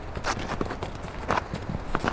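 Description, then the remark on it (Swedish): Hooves clip-clop steadily as a horse pulls a cart with the driver sitting in the wagon, a series of sharp knocks in an uneven rhythm over a low rolling rumble. “Det är ju inte bara en fara för mig som sitter i vagnen utan även för människor runt omkring eller andra djur.”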